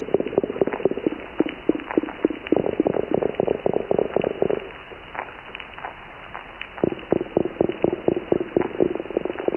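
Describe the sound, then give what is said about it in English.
Fish knock with their swim bladders in rapid, evenly spaced low thuds, a steady run of knocks that fades for a couple of seconds midway, then resumes at the same rhythm. “I mean, they're all made by, you know, fish that are producing sound from their swim bladders.”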